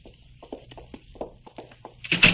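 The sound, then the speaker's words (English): A door is opened: a run of soft taps and shuffling handling sounds builds up to a louder, rougher clunk and scrape at the end, with no one speaking. “Stop. Open the door. Go ahead.”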